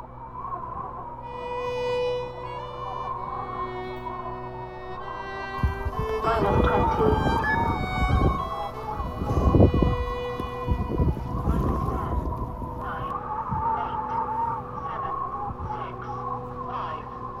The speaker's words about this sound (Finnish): Lähtölaskenta on käynnissä. Yön pimeydessä näkyy vain välähdyksiä ja kuuluu kumisevaa mölinää, kun 13-metrisen raketin moottori pauhaa. Nyt se ampaisi ylös kohti avaruutta.